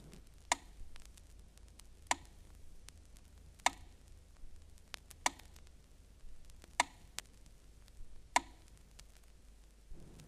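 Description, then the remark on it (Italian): A metronome ticks slowly and steadily at about 40 beats per minute, six sharp, bright clicks spaced evenly apart over a faint low hum, with no voices. “Il metronomo, che è uno strumento perfetto, ti può dare battiti in numero di 40 a 200 circa al minuto.”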